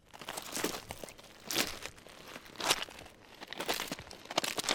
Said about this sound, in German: Vom Rand des Flussbetts aus laufe ich über die Steine in Richtung Wasser. Hier in Burgdorf führt die Emme an diesem Tag Mitte Oktober wenig Wasser. Ich muss fast bis zur Mitte des Flussbetts gehen, bis ich das Ufer erreiche.